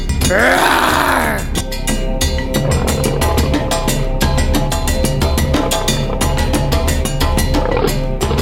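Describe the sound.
A person imitates a lion's roar with one loud, deep, rising-and-falling growl lasting under two seconds, then upbeat rhythmic music with a steady beat carries on.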